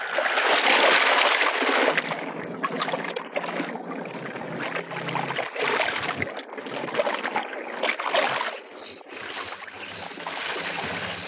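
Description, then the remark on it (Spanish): River water splashes and sloshes continuously, with irregular surges and bursts as if something is moving through the river. No voices are heard. “Chatras y sus hombres, uno de ellos llevando a Solín en brazos, se han acercado al río.”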